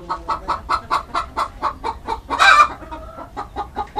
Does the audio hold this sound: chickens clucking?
yes